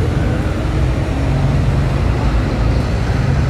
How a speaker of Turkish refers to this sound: Bir otobüs geçti önümden ama durmadı.